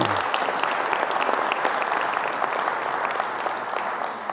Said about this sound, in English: Let's give him a nice round of applause here, because.